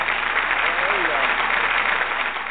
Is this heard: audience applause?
yes